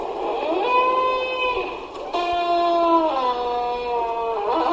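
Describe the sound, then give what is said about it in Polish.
A heavy old tenement building door on Narutowicza Street in Leszno, Poland, squeaks and creaks loudly, giving long, drawn-out squeals whose pitch bends and slides, almost like an animal's wail, with no talking. “To brzmi jak nawoływanie jakiegoś zwierza, ale to są drzwi kamienicy na ulicy Narutowicza, piszczące, skrzypiące okrutnie.”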